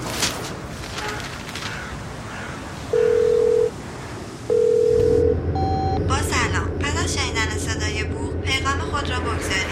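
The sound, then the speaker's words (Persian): A telephone line tone sounds twice in steady, even bursts over a busy background, then a few short beeps follow before a person starts talking over a low hum. “گوشی رو بردار.”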